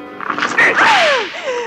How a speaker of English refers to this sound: Here. This whip will teach you a lesson.